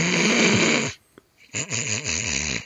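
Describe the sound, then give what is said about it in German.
A voice imitates the loud snoring of the speaker's mother, who fell asleep: a harsh, rattling inhale, a brief pause with a faint click, then a wavering, buzzy snore that rises and falls. Loud, no speech. “Aber wenn sie schläft und wenn sie schnarcht, dann schnarcht sie nicht so.”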